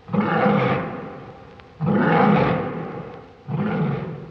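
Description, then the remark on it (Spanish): A big cat roars three times in steady succession, each deep, rumbling roar swelling quickly and fading out before the next begins, with no voices present. “gran rugido”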